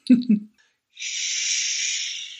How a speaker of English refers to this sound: Oh, wow. Do you hear that gentle breeze? Oh, it sounds like an ocean. Oh my gosh, is that Tulum? I think it is Tulum.